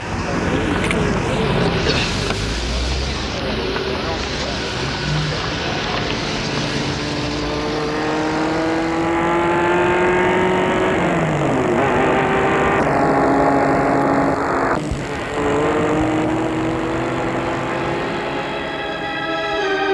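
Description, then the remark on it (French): A car engine drones steadily, its pitch rising and shifting as it accelerates and changes speed, with a constant rushing hum throughout and no clear talk. “Et ils entrent dans la voiture pour les mener au siège.”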